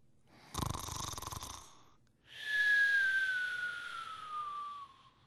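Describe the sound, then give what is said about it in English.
A loud snore from a person asleep in bed at night: a rough, rattling inhale for about a second, a brief pause, then a long whistling exhale that slowly falls in pitch. “Then I start to snore.”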